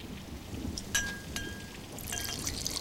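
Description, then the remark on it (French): A brief splash of whiskey poured into a glass, with a couple of thin glassy clinks and a soft gurgling trickle, no one speaking. “une larme de Jim.”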